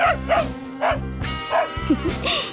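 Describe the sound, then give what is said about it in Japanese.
A dog barks at a person repeatedly in short, sharp bursts, about six or seven barks in a quick uneven rhythm, loud, with a low steady hum underneath. “犬に吠えられてる。”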